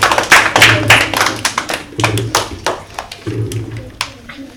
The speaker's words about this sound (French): Sept. C'est une bonne réponse. Applaudissez-les.